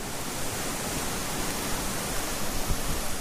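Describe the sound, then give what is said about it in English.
A heavy river waterfall at the foot of a steep bank roars steadily as it dumps through a narrow tower of stone into a wide pool, a dense, unbroken wash of rushing water that fills the whole soundscape, with no voices or pauses. “At 3/4 of a mile, the river begins to roar, and down a steep bank, I stand before a heavy waterfall that dumps out through a chokehold tower of stone into a wide pool.”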